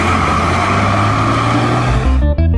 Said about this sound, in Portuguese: Pois o teu minutinho acabou de virar uma hora. Olha o teu ônibus indo embora.